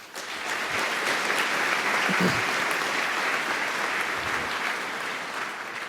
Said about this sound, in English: And so a big applause for them as well that they try to provide care in addition to our angel kitchen and all the other awesome people.